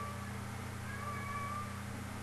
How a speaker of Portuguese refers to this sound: Temos aqui um gato a fazer-nos companhia no término desta edição. Ora, pois muito bem, estão a ouvi-lo?